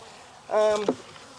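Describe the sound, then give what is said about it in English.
A single honeybee buzzes past at a weak beehive, a brief, loud droning hum that rises and fades within half a second over a quiet outdoor background. No one speaks. “Just a few bees up here starting to work.”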